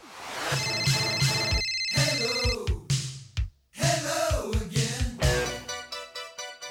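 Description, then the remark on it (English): A telephone rings loudly with a bright, repeating electronic tone, pulsing in quick rhythmic bursts over several seconds with a brief gap in the middle and no voices. “Now, to introduce the next topic, I have a phone message.”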